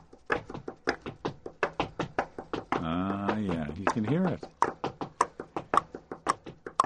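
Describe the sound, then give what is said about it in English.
A steady, quick tapped pulse like a heartbeat, sharp knocks in an even rhythm demonstrating the samba and bossa nova beat, broken midway by a brief stretch of speech before the tapping resumes. “You want that dun, dun, dun, dun, dun, dun, dun, the heartbeat there.”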